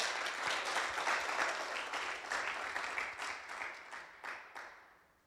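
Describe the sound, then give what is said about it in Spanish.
Loud, dense applause from a crowd giving a strong round of applause to the Lord, many hands clapping at once in a steady roar that gradually thins into scattered claps and fades out near the end. “¿Por qué no le da un fuerte aplauso al Señor?”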